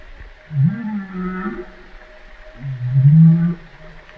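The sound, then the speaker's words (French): Two long, low moaning whale calls, each gliding upward in pitch, separated by a brief pause, heard alone against a faint underwater hiss. “Ça, c'est une baleine qui parle.”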